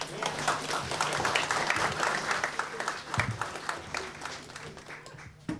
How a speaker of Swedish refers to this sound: Som vi kan väl hälsa välkomna med en stor applåd.